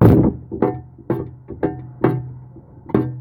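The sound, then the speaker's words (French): A microphone is struck repeatedly like a hammer: about seven loud, dull thunks at an uneven pace, each leaving a short low boom ringing after it. No one speaks. “Je peux prendre le micro que Dieu a prédestiné à porter ma voix et je m'en sers comme marteau.”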